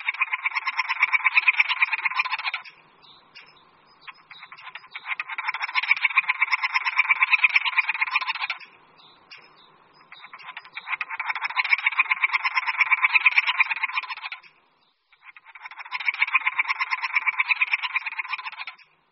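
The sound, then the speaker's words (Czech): Three-toed woodpecker giving a hoarse courtship call: four harsh, rasping bursts of a few seconds each, separated by brief pauses, mid-pitched and fairly loud, with no voices. “V toku se navíc datlík občas ozývá chraplavým vábením.”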